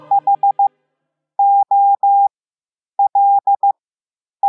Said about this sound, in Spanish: Hemos oído hola en Morse y ahora vamos a oír algo más complejo, un versículo del Evangelio.